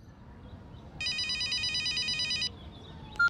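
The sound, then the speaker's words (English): A telephone rings once, opening a phone conversation in a textbook listening exercise, in a steady burst of bright, rapid trilling for about a second and a half, clear over a quiet low hum, then stops abruptly with a brief click. “Read and listen to the phone conversation.”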